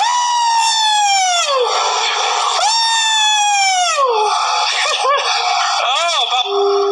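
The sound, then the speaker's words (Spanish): The McLaren team cheers and shouts celebrating a race victory, loud overlapping yells and whoops with long falling cries, continuous for several seconds. “Sí, Zach, festeje, festeje, griten.”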